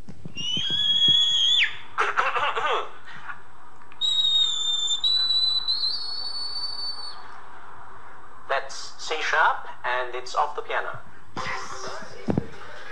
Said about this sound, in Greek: ένα τσίριγμα ουσιαστικά. Είναι χρήση φαλσέτου από έναν άντρα στην εκπομπή για το παγκόσμιο ρεκόρ.